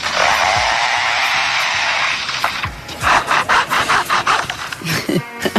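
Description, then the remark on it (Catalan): A bird mimics a chainsaw: a steady, loud buzzing drone for about two seconds, then a run of rapid rasping bursts like sawing strokes, clear with no talking. “En fi, i també pot imitar una motoserra.”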